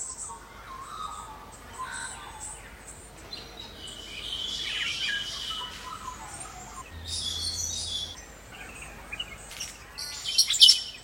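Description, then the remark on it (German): A morning chorus of birds outdoors on Kangaroo Island, Australia, with overlapping chirps, trills and calls from several birds, some bright, over a soft natural background hum. “Hier könnt ihr schon mal reinhören, wie so ein Morgen auf der Insel klingt.”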